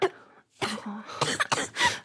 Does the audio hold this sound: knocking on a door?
no